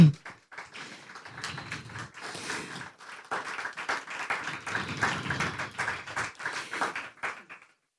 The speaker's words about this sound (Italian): E quindi prima di tutto vorrei che le facesse un applauso.